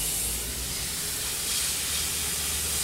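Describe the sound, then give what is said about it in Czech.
Workers sandblasting a very old bridge through hoses to clean its structure of dirt: a steady, harsh hiss with a bright, sandy edge, unbroken for the whole stretch and fairly loud, with a low rumble beneath and no voices. “Dělníci právě teď tady natáhli hadice a začínají pískovat.”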